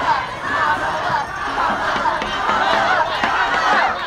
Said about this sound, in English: On the street in front of a big convention center, there were clusters of Elizabeth Warren supporters, Amy Klobuchar fans, Kamala Harris campaign volunteers in bright yellow shirts. They were all cheering and chanting for their candidates.